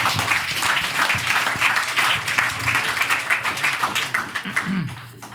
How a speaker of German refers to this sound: Ja, Applaus. Für alle Fragen falsch.